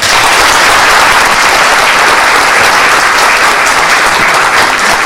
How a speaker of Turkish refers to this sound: Bu alkışlarınız bana değil. Bu ilmi, bu bilgileri size ishal eder Resulullah'a.